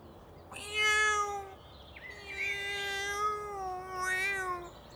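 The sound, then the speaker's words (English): A cat stuck in a tree, unable to get down, meows twice, a short plaintive cry followed by a longer, drawn-out wavering meow, fairly loud with no talking. “My cat is in the tree and it can't get down.”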